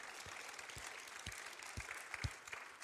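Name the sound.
audience clapping hands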